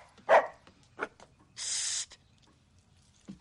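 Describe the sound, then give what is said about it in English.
A dog, Edward from the film The Accidental Tourist, gives a few short, sharp barks spaced out over several seconds, with a brief breathy hiss in between. No one is talking. “To a quirky dog trainer in The Accidental Tourist. Should Edward be barking that way?”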